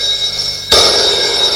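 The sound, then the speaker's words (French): A telephone suddenly starts ringing loudly after a brief quiet moment, a harsh, high, continuous ring that fills the rest of the short stretch with no voices. “téléphone, le réveil.”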